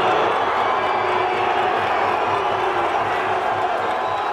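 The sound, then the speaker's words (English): A loud, dense roar of angry protesters outside the Parliament building booing and shouting together as Prime Minister Joseph Muscat departs, kept back behind railings, sustained without a break throughout, with many voices blending into a continuous wall of noise. “angry protesters outside the Parliament building were kept back behind railings, many booing the Prime Minister as he departed.”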